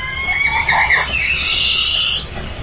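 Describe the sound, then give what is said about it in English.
A loud orca call rings out alone, a rising and falling whistle with harsh, squealing overtones that holds for a couple of seconds before fading slightly at the end. “And the three whales turned to go back to get the baby. And she picked it back up, and then they continued on. But you heard this really loud.”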